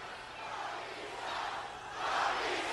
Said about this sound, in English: You can hear the response from this capacity crowd.